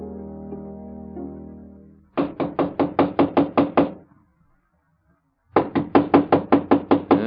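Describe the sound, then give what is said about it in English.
Two bursts of rapid, loud knocking on a door, each about ten sharp raps, separated by a brief pause, following a low sustained hum at the start. “We're going in whether they open the door or not.”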